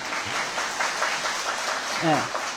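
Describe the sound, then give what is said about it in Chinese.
An audience applauds the five performers who have each just spoken on stage for about twenty minutes, a steady, dense wash of clapping that lasts the whole moment, with a brief voice rising over it near the end. “所以我看你们这些都是善解人意的观众，可以给他们点掌声是对的。”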